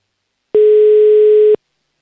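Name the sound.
telephone call ringing tone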